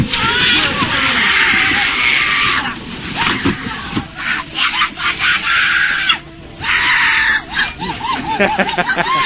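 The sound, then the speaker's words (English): As the music drops, a woman screams wildly and shrilly, almost animal-like, over a loud, dense crowd roar that barely lets up for the whole stretch, with brief dips before the noise surges again. “I love this woman screaming. There's just one woman who's just flipping out.”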